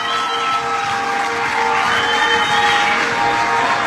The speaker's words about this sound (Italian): la gente lo sta applaudendo, sentite il calore.